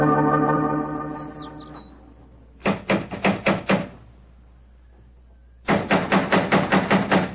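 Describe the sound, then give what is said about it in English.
A held musical tone fades out, then someone raps sharply on a door in two loud, rapid bursts, about six knocks, a pause, then roughly eight more. “Home, or the devil doesn't he answer the door?”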